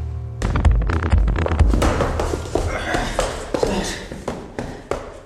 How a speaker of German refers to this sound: Schritte sehr bestimmt, Schritte ängstlich. Ein Kind. Ein Mann in den besten Jahren. Ein alter Mann. Unterschiedliche Schritte.